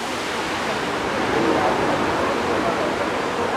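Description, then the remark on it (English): A waterfall roars in a dense, steady rush of heavily spraying water that fills the whole moment without letting up, loud and continuous from start to finish. “and yeah, there is just like the spray from the waterfall is like spraying out quite a lot.”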